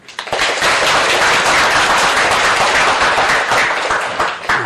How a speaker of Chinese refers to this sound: 我们非常有幸地邀请到著名佛学大家陈斌先生莅临会场，为大家讲授三教心性论，请大家以热烈的掌声欢迎陈老师。